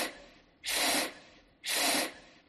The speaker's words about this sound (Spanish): ¿Eso qué es? Un inflador. Un globo.